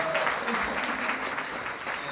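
An audience applauds in a dense, steady wash of clapping that holds at an even loudness for about two seconds, with no clear voices rising above it.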